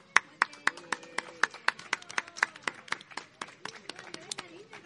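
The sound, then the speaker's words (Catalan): A small audience applauds with crisp, irregular hand claps that keep going for several seconds, while voices murmur and call out faintly underneath, applauding a participant who has won a book. “Doncs un fort aplaudiment”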